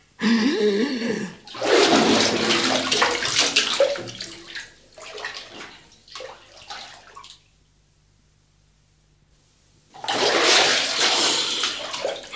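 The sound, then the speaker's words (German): Loud water splashing and sloshing in a bathtub as a person dives under the water; a few seconds of near silence follow before another burst of splashing as they come back up. “Dann tauche ich jetzt so lange, bis Sie die Ente zu Wasser lassen.”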